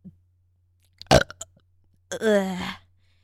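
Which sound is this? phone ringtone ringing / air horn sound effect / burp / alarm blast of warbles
burp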